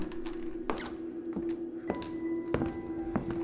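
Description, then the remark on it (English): Footsteps walk at an even pace around a mostly square room with stairs, checking its corners, roughly five dull thudding steps with a slight tap to each, over a steady low hum. No one speaks. “Just walk the room.”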